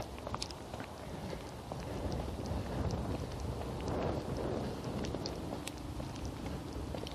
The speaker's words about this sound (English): It's starting to rain significantly harder.